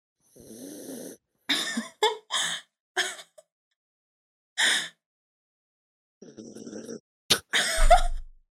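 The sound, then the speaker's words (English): A sleeping dog snores in rough, breathy bursts with short pauses between them, then snuffles loudly and wetly right into the microphone toward the end. “My dog is next to me. She's sleeping. I'm going to try to record her snores.”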